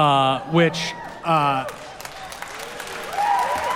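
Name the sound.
audience cheering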